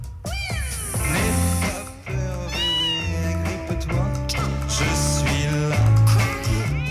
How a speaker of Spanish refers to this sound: Gato y gatas tiene. Mi gata, Nehuen. Una belleza.